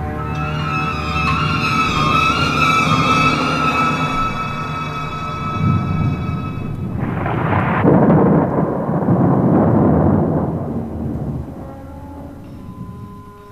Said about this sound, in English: As they ate, they heard storm gathering.